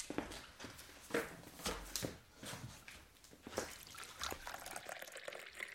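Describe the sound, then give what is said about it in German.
Water for tea bubbling at a boil, with irregular bursts of gurgling and splashy, hissing noise rising and falling over several seconds, and no one speaking. “Oh, ich glaube, unser Teewasser kocht.”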